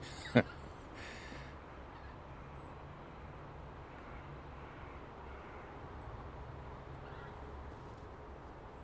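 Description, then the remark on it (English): A flock of about 40 geese honks faintly as it flies overhead, heading south, mostly in the first moments, over a steady wash of outdoor background noise, with one sharp knock near the start. “Geese are a wonderful sound.”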